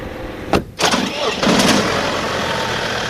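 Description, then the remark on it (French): A straddle tractor engine runs steadily in a vineyard while shredding vine prunings, a loud continuous rumble with a brief surge as it revs near the start, then settling into an even, droning hum. “Et bien, si vous voulez, je peux vous emmener voir mon père qui est justement sur l'enjambeur en train de broyer dans les vignes.”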